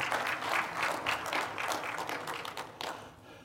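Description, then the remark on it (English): An audience at a morning church worship service claps together in a steady, dense patter of many hands, loud and sustained for a few seconds before thinning out at the end. “Oh, yeah, you can clap.”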